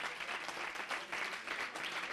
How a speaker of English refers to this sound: But oh my God, I hear the sound of Pentecost. Come on, I hear a certain sound. Somebody clap your hands and listen to it.